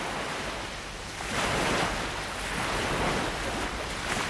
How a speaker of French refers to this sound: Au lieu d'être dans la forêt, il se trouvait dans un océan très agité. De gigantesques et brillantes vagues s'emportèrent au loin.